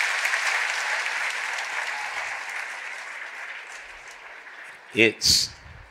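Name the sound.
audience clapping hands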